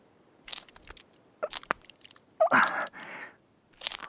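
impact, footsteps crunching on ice

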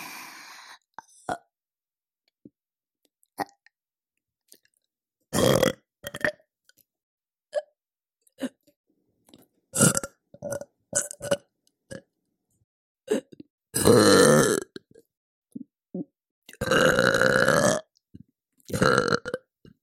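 human body sound, repeated burping

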